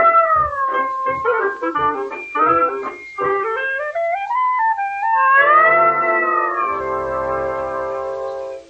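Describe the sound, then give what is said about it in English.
A human voice imitates a loud, drawn-out back-fence cat yowl in the Columbia Workshop radio play The Pussycat and the Expert Plumber by Arthur Miller: choppy wavering cries at first, then a long sliding wail that rises and falls before settling into a sustained, strained howl, alone. “Now, like the old days, Tom, a good one. Like on the back fence, you remember?”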